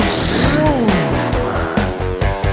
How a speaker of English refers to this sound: cars go past.